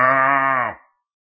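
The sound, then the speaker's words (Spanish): A person imitates a sheep with one drawn-out, nasal bleat that holds steady for under a second and then cuts off, fairly loud, followed by silence. “¿Ustedes han visto un rebaño de ovejas? De esas que hacen B.”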